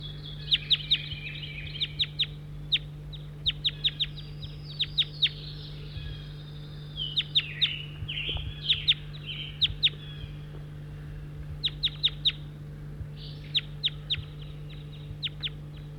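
Birds chirp in quick bursts of sharp, high-pitched notes, clustered every second or two over a steady low hum, with softer warbling calls woven between the clicks.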